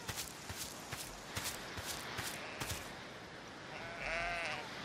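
In a video game set on an island, steady footsteps crunch along for a few seconds before a single sheep lets out a quavering, wavering bleat near the end, fairly clear against quiet outdoor ambience.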